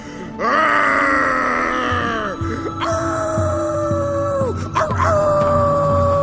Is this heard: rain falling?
no